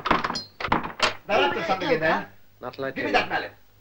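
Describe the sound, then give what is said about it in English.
A man unbolts a stuck door and tries it several times, giving a quick series of heavy thumps and rattles, followed by people speaking loudly. “He can't open it.”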